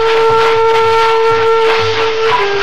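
A train brakes with a loud, sustained metallic squeal, the steady shriek holding over rumbling wheels before dipping slightly in pitch near the end as it slows on arrival at Laramie.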